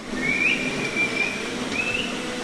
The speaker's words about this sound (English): She and two of her employees whistle at the black and white cows, coaxing them into the stalls.